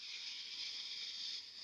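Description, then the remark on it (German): A long, steady breath drawn deep in through the nose into the belly during a breathing exercise, a soft airy hiss lasting nearly two seconds. It's quiet, with no talking over it. “Und dann atmen wir gemeinsam tief durch die Nase ein, bis in den Bauch.”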